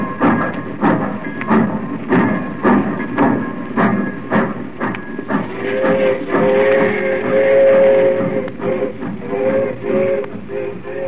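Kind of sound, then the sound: vehicle, train departing from station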